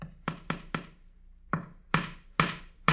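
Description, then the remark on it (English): A man hammers a nail into a wall to hang a horse picture, the top half of an Isaac's Livery calendar: three quick sharp blows, a pause, then four more spaced strikes, each loud and ringing briefly, with no voices. “The man is nailing a horse's picture to the wall.”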